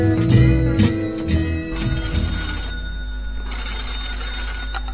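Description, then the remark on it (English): A telephone rings with a steady, sustained metallic trill that starts partway through and continues to the end, loud, following a few brief musical notes at the start. “Hello? No, I'm sorry, you got the wrong number.”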